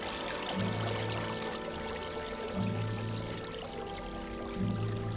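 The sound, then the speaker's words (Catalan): Mountain spring water flows and splashes in a steady, continuous rush, while soft low musical tones repeat about every two seconds underneath. “Les fonts que brollen de les entranyes secretes de la muntanya tenen un gust inoblidable, transparent i verd, com l'arrel de faig o de vet que et torna olorosa a la boca.”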